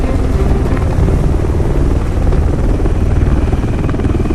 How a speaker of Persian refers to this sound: لزومی داره هلیکوپتر فرود بیاد؟ احتیاجی نیست.